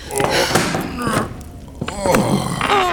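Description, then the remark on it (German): A door swings shut with a dull thunk amid a few short knocking bumps, and a voice is heard briefly afterward. “Die Tür zu, Rosenrot.”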